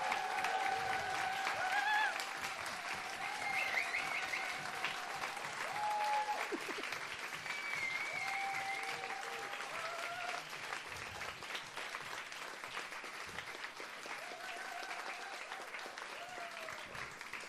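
Sustained applause from an audience, a dense steady wash of clapping that holds for the whole stretch, with scattered cheers and a few high whistles rising over it.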